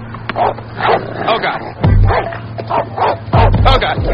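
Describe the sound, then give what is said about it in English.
A dog barks and yips repeatedly in short bursts, mixed with high whimpers, fairly loud, wanting a tennis ball, while people talk underneath. “Just give the dog your tennis ball.”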